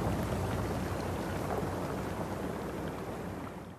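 Melting glacier ice in Greenland crackles with a dense, steady fizz of tiny snaps and pops, continuous like rain on a surface, fading slightly toward the end. No voices are heard.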